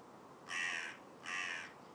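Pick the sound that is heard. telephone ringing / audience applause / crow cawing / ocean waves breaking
crow cawing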